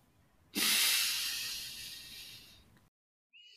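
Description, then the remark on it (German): A single deep, deliberate inhale through the nose, loud, starting abruptly and tapering off over about two seconds before cutting to silence. “Meistens atmen wir überhaupt nicht bewusst, ja, dass man wirklich bewusst den Einatmen macht und dann dafür das dafür vorgesehene Werkzeug benutzt.”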